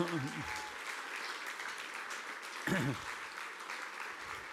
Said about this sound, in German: Erstmal Applaus für die beiden hier.